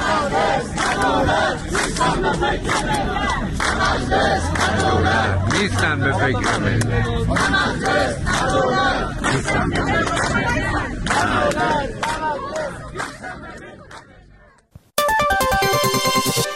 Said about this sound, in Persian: شعارهایی هم در این تجمعها داده شد، مانند رئیسی دروغگو، حاصل وعدهات گو و ظلم و ستم کافیه، سفره ما خالیه.